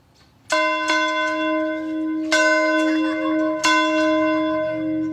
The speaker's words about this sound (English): So every evening at around 8 o'clock, I venture out to the front of the church with my daughters, and we ring the church bell. And we ring the church bell to let our community know that the church is here for them, that we are here for them,